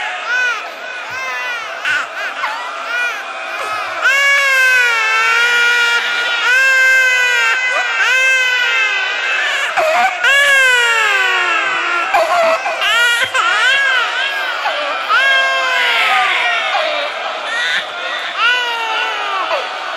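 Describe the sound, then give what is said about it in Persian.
A baby cries and screams loudly and continuously, with rising and falling wails that overlap, set against a murmuring crowd in the background. “این باز میتونه داد بزنه.”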